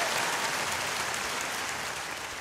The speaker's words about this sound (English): Can I have some applause for that? Do you have any applause for that? That's a worthy applause piece right there.